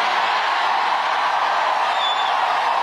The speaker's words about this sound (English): Sounds like it from that. It certainly does. A rowdy crowd in Kalamazoo.